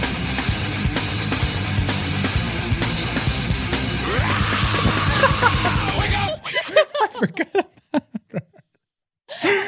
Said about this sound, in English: Okay, now we get into a section that I have, it's 7 seconds long, and I have labeled it simply Scream.